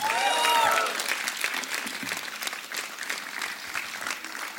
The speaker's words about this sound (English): Yeah, this is it, and this is time for bye bye, and yeah, this is my band again. A big round of applause for them again.